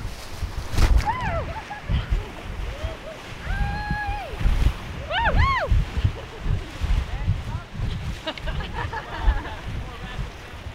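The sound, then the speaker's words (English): Steady roar of rushing whitewater on a river rapid known as Fern Gully, probably class 2 plus at current water levels, fills the scene loudly, while voices whoop and call out excitedly over the churning water several times. “This stretch of river is known as Fern Gully, … explains. It's going to be our best rapid of the day.”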